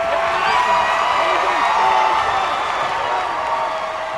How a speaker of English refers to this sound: This time around, it's a crowd of Brother Rice orange that's rushing the court.